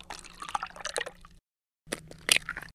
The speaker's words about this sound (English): They're the sounds of pouring milk and cracking eggs.